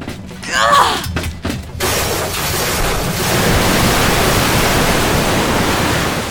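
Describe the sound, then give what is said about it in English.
A sharp crash with splintering, crackling hits at the start, then a steady, loud rushing roar of water surging on without pause, as a torrent of water rushes from a bathroom down a hallway and slams a creature into the far wall. “I can't believe my eyes as a rush of water comes from the bathroom, down the hall, around Claire, and into the creature, slamming it into the far wall.”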